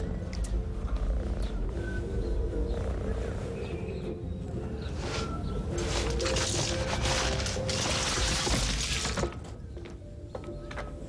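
A happy pet cat purrs, a steady, continuous low rumble that carries on for the whole stretch with only slight swells in loudness and no talking over it.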